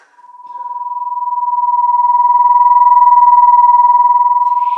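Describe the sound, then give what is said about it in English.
Two nearly matching pure tones beat against each other, making a steady electronic hum that pulses in a fast, regular wobble of loudness. It swells in over the first second, then holds alone. “In these illustrations, the sound waves start at the same point, and depending on the difference in frequency, the sounds are either in unison or they are out of tune.”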